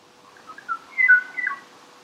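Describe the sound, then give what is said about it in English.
A Kauai o'o bird's clear, fluting whistled call, a species gone for more than three decades: a few short rising notes, then a brighter burst of warbling phrases around the middle, heard alone against faint background hiss. “We cannot save this bird, gone now for more than 3 decades. All we can do is hear its call.”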